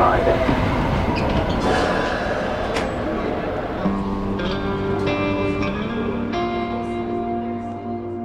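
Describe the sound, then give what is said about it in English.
Interior of a Metrolink light rail train in motion in St. Louis: a steady low rumble with rhythmic wheel clatter, sharp metallic clicks, and sustained tonal hums and squeals as the car rolls along the track. “To get to the Illinois clinic, it's a 10-minute walk, and then a Metrolink train, and then a bus.”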